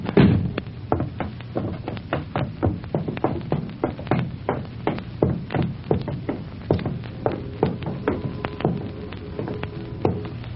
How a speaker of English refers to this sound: Careful with that door, you heavy-handed fireman.